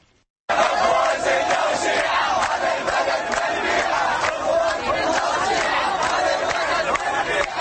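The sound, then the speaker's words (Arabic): A crowd of young participants in the 'We Will Wait Baghdad' marathon in Baghdad, run on a Saturday by the Ministry of Youth and Sports with about 1000 runners of both sexes, shouting chants together, loud and continuous, with rhythmic bursts of voices rising over a dense roar for several seconds after a brief quiet start. “هتافات أطلقها الشباب المشاركون في ماراثون سننتظر بغداد الذي نظمته وزارة الشباب والرياضة السبت بالتعاون مع المنظمة الإيطالية للثقافة الرياضية.”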